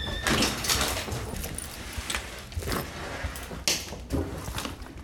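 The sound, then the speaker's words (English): The back door of Veronica's Pastry Shop, a bakery, is handled: rattling, scraping and a few clunks and clicks over several seconds, with metallic jangling like keys, against a faint background hum. “Come with me as we enter the shop through the back door.”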